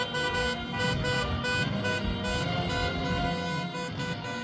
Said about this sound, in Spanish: Esperanza por ver a centenares de vehículos colorear de rojo Igualda la Castellana y calle Alcalá al ritmo de bocinas e himno.